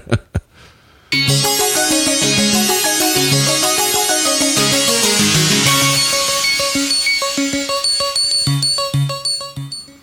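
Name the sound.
phone ringing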